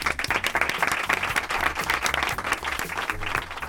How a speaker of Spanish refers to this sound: Un aplauso, ¿no, chicos? Un aplauso.